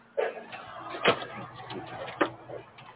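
A door being opened, with two sharp clunks of the latch and wood about a second apart, close by, over faint rustling and shuffling.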